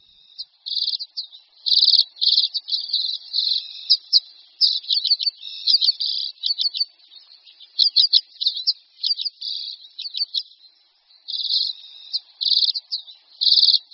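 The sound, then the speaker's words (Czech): A common redpoll sings a steady run of high, dry trills and rapid chattering bursts, broken by brief pauses, continuing for the whole stretch with no voices. “Pokud tento zpěv uslyšíte v červnu někde na Šumavě a ornitolog vám řekne, že jste právě poslouchali zpěv čečetky zimní, budete jistě trochu překvapeni.”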